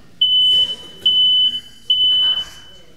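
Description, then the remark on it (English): A smoke alarm beeps three times in a steady rhythm, each shrill, piercing tone lasting about half a second, loud, with faint background murmur between beeps. “Yeah, it's a smoke alarm actually, and you know it's important, isn't it?”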